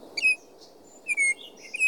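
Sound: baltimore Oriole song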